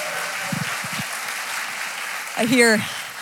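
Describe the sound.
A crowd applauds a middle school director coming up, with steady, dense clapping throughout, and a single rising whoop or cheer from one voice briefly cuts through near the end.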